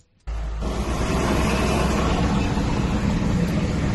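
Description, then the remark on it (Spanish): A heavy fire truck engine roars as it clears snow from a road in Spain after storm Filomena, a loud, steady low rumble with broad noise that starts abruptly after a brief silence and continues unbroken. “Los camiones de bomberos se han empleado a fondo para quitar la nieve de muchas de estas vías.”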